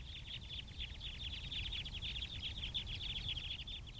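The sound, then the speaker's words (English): A flock of crossbills flying overhead at Fayetteville Country Club, Arkansas, on a windy day in December 2012 gives a steady stream of short, high flip-flip or chip-chip notes in quick overlapping bursts, with a low rumble of wind throughout. “Here's a flock overhead. I recorded this at Fayetteville Country Club on a windy day in December 2012.”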